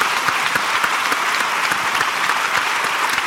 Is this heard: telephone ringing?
no